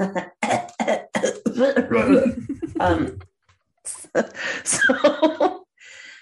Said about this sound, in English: Now that I'm talking more, I'm like, oh, my throat's just like scratching. Let me clear my throat.